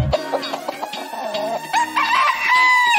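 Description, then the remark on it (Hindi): A rooster crows with a strained, rising call, set against a steady musical backing, loud throughout. “Cake न मैं लाया पर लाया मुर्गा।”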